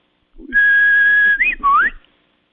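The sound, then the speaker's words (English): A person whistles in imitation of a bird's song, said to sound like an Old World warbler, a wood warbler, and very similar to Setia diphone: one long, steady, high note, then a quick up-and-down flick and a rising, sweeping note. The whistling is clear and loud, with no talking. “Well, it sounds like an old world warbler. Wood warbler.”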